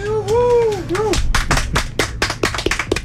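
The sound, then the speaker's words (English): A brief rising-and-falling whoop gives way to a burst of applause from quite a lot of people in an audience outside: many quick, sharp claps overlapping into a steady, lively patter that stays loud to the end. “And well, we have a big applause here.”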